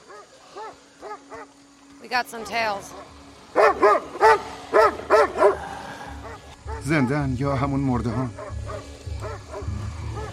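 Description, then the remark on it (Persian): A dog barks in a quick run of five or six loud, sharp barks, while people talk before and after the barking. “بیا سگه.”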